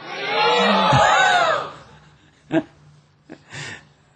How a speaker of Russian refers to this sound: Еще раз, громко крикните «Харибол».